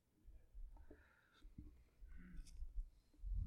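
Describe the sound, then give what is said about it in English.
Soft papery rustles of thin Bible pages being turned, a few brief crinkly swishes, quiet, with no talking. “My Bible keeps turning pages when I'm not.”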